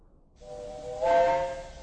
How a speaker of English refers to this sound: What's happening outside? They're getting up steam on the engine. Does that mean the line is clear?